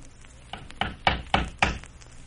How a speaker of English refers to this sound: Someone's at the door